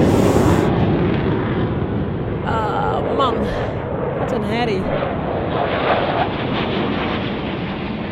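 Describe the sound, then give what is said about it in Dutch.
A loud, steady roar of fighter jets, a lead jet followed by its wingman, passing overhead fills the whole stretch, with people talking briefly underneath the thundering engine noise. “oeh, er komt een straaljager, jongens. Oeh, die maakt heel veel herrie.”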